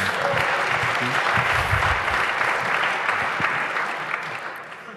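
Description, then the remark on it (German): A crowd applauds steadily, a dense wash of many hands clapping at once, holding loud and even for several seconds before starting to thin and fade toward the end. “Jetzt ist Zeit für den Applaus.”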